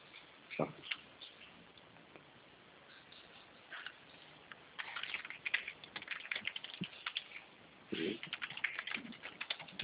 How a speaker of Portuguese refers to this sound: Digitei e cliquei.